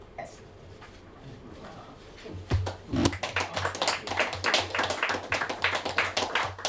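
An audience at a poetry reading breaks into applause after a quiet stretch, many hands clapping in a dense, irregular patter that stays fairly loud and steady for the last few seconds.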